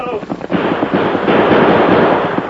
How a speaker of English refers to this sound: I never seen such shooting. He knocked the guns right out of our hands.